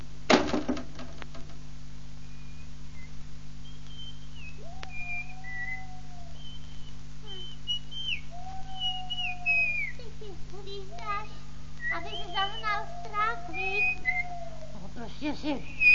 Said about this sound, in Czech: Si hvízdám, no. Ale já hvízdat neumím, tak si budu povídat.